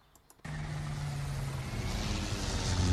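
A small airplane engine kicks in abruptly after a brief quiet moment, then drones steadily with a low, throbbing hum under a broad roar that gradually grows louder, during a sightseeing flight over the mountains of Triglav National Park.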